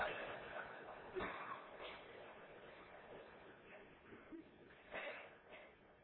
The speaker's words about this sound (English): You okay? Hate to interrupt you while you're blowing your nose like that.